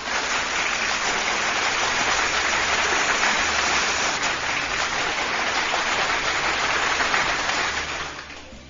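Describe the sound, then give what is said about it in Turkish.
Sustained, dense applause from a crowd on Radyo 1 numara after a poem reading, steady and loud for several seconds before tapering off at the end, with no voices over it. “Ve kocaman bir alkış gelsin gönlümün dostları.”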